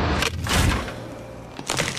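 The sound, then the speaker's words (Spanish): Crisp cracking of the chocolate shell on a Magnum Praliné or Magnum Frambuesa ice cream tub, a few brittle snaps bunched early and another burst near the end, over a low rumbling background with no talking. “Cuidadosamente creadas para romperse. Nuevas tarrinas Magnum Praliné y Magnum Frambuesa.”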